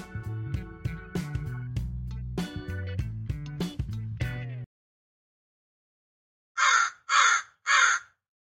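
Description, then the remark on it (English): A crow caws three times in quick, evenly spaced loud bursts, following a stretch of music that cuts off into silence. “And by the way, what you just heard was a crow.”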